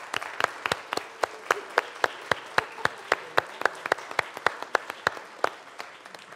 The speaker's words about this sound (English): And she deserves a big, big round of applause for being so beautiful.